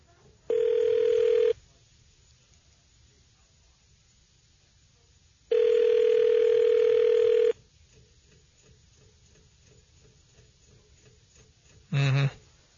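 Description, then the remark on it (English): A telephone line rings as a call is placed to a guest: two steady, buzzy ringback tones about two seconds each, separated by a long pause, then a brief click as the line picks up. “It's called phone a friend.”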